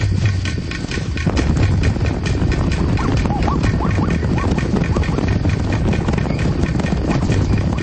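A spooked herd of horses, attacked by lions, stampedes up a valley in a dense, continuous rumble of galloping hooves, loud, with rapid overlapping thuds and no pause throughout.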